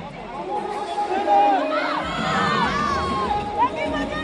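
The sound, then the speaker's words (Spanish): The Spanish women's water polo team, Olympic gold winners, shout and cheer together on the podium in a loud, excited victory cry, many voices overlapping in a raised, celebratory cry amid a lively crowd. “Se suben todas al podio a ver el grito. Lo vamos a oír.”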